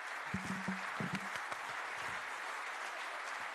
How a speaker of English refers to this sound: On that note, I'd like to do a round of applause for Alec Hogg and the BizNews team for an incredible conference.